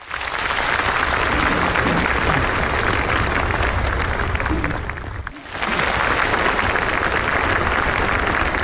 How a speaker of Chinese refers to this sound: 在热烈的掌声中，习近平发表了重要讲话。